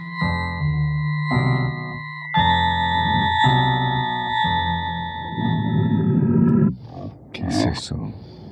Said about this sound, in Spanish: ¿Un gemido agónico de un hombre o el rugido de una fiera hambrienta? Nadie, sino tú, ha sido testigo de la transformación de un ser humano en bestia.